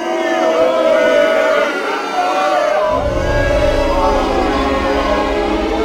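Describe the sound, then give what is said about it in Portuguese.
A crowd at a congress boos and jeers loudly as two women doctors are announced to present their work, many voices overlapping in a continuous, droning clamor that grows heavier and fuller partway through and keeps going without a break. “Foi o sinal para que começassem as vaias.”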